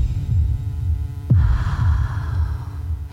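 A deep, ominous heartbeat thumps steadily in the low end over a dark droning hum, with a sharp swelling hit near the middle that adds a hissy, tense wash, in the trailer for the film Water for Elephants.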